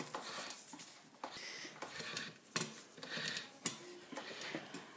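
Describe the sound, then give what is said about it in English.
A hand-cranked pasta machine rolls dough that has come out of the fridge, giving a steady rattling, ticking mechanical noise broken by a few sharper clicks every second or so. No one speaks. “This pasta, the dough's come out of the fridge and it's been fed through a machine, a pasta making machine.”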